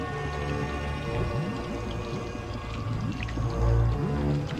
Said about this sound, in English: Bubbly, dirty water. The sinking sand.